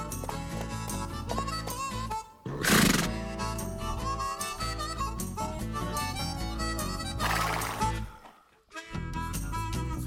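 horse neighing

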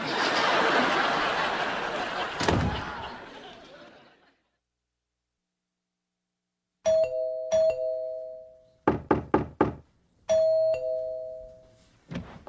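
doorbell ringing repeatedly

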